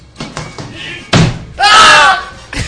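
A running kick, given as a test, lands on a person wearing a groin protector with a single heavy, dull thud, quickly followed by several people yelling and shouting loudly for a moment before it cuts off.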